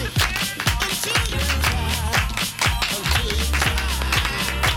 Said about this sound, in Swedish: Tja, nu klappar du med dig.